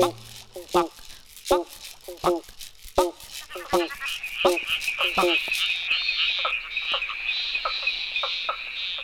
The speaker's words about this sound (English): There's a bumpy frog and a barking frog, but I like to sing with a pobble-bonk frog.